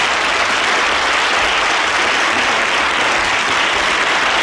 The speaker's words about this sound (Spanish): si no es con un aplauso que vamos a recibir